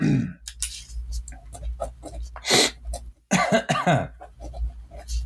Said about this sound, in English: Sorry, I have a sneeze. Right around 40 minutes. I got to edit that out.